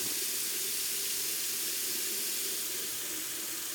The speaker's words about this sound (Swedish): När jag plötsligt hörde hur alla kranar i hela mitt hus sattes igång samtidigt.